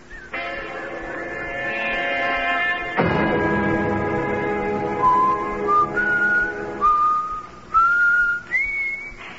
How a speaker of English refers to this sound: Whistle like that all the time?